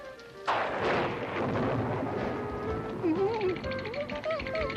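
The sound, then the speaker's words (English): A sudden, loud crack of thunder in a monster movie bursts in and rolls on as a long, heavy rumble, with wavering voice-like sounds rising over its fading tail. “It's just thunder.”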